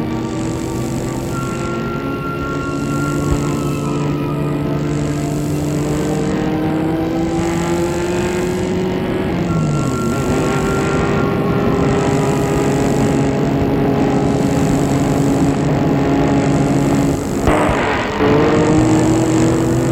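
A car engine hums steadily as it is driven in the evening toward Versailles, with a low droning tone that rises and shifts as the car changes speed. No one speaks.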